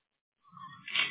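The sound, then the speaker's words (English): A single sneeze: a short voiced intake that builds quickly into a sharp, bright burst. It comes after a moment of silence and no one talks over it. “Bless you.”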